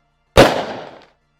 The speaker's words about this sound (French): Et alors que la conversation est dans le milieu d'une phrase, t'entends un coup de feu.